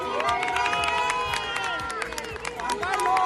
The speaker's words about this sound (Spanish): Entre los ilustres convidados al enlace está el rey emérito, que es primo de la abuela de la novia. Tanto a su llegada como a su salida del templo, don Juan Carlos ha sido recibido con estos aplausos.